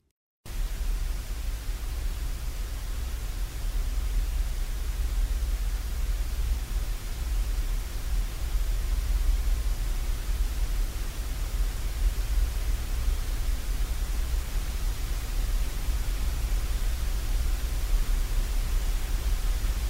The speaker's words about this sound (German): In seiner Arbeit Speculum Speculi verstärkt er allerdings die Leere, indem er sämtliche Produktionsstudios von Deutschlandradio Kultur in eine Rückkopplungsschleife zusammenschaltet. Die leeren Räume schwingen sich so auf eine gemeinsame Tonhöhe ein.